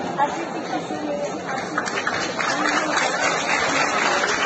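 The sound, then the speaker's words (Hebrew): A theatre audience at a show with actor Avi Kushnir applauding, a dense, steady wash of clapping mixed with crowd chatter that holds at an even, fairly loud level for the full four and a half seconds. “ואם אפשר למשוך עוד קצת מחיאות כפיים, אז למה לא?”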